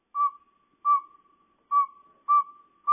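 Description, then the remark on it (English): A male northern saw-whet owl's advertising call: five clear, whistled toots in a steady series, each short and even in pitch, ringing out alone against a quiet background. “Listen carefully to the pacing of their hoots. Here's the first.”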